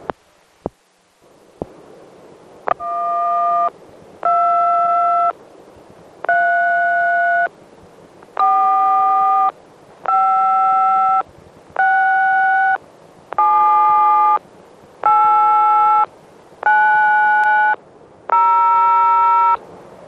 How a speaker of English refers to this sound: So, I'll talk to you later, and this is the end of the tape. I'll put the tones on and put it in a package and mail it to you right away.